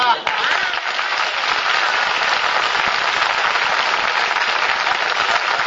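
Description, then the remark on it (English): A large audience applauds steadily, a dense, continuous wash of clapping that stays loud and even for several seconds without fading. “It says in the script I should come out, look adorable, and get applause.”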